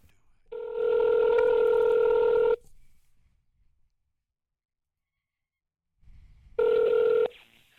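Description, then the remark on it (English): A phone call being placed to Proton Investigations: a steady electronic ringing tone on the line sounds for about two seconds, falls silent for several seconds, then rings again briefly. No voices are heard. “And if that meant calling this phone number, then by God, I'd do it.”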